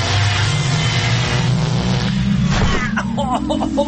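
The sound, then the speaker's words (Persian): A time machine powers up with a loud, steady low engine-like rumble, then whooshes and breaks into warbling, stepped electronic tones near the end, continuous with no talking. “خب ماشین زمان جان روشن شو بریم ببینیم چه خبره، یا شانس و یا اقبال.”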